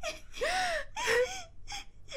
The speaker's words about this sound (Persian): مادر جون، مادر جون چی شده است؟ چرا گریه میکنید؟ تو چرا گریه میکنی خواهر گلم؟